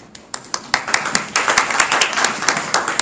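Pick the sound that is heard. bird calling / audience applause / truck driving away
audience applause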